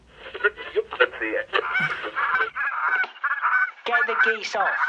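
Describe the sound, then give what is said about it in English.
A voice imitates a goose, letting out a rapid string of loud, nasal honks that run together almost continuously with only brief breaks. “he used to have sound effects of geese.”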